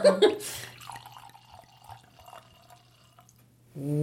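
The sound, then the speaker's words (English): Wine glugs and trickles from a bottle into a glass, starting with a splashy burst, then settling into a steady, gurgling pour with small bubbly drips, ending with a louder splash. “See, that's a good sound. That's a better sound. You know, I think it's the shape of the bottle.”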